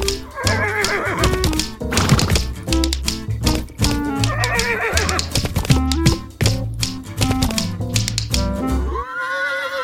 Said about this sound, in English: Okay, tap shoes are in place. Horses, you know what to do. From the top, 5, 6, 7, 8.